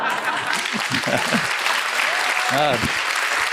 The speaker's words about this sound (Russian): Ну что вы хлопаете? Вы же не знаете, что там дальше.